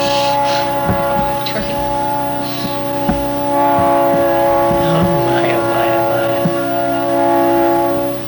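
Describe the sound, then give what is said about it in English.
A train passes with a loud, steady, humming drone that holds for several seconds, layered tones ringing together while scattered clanks and rattles break through the rumble. “Trains, gotta go.”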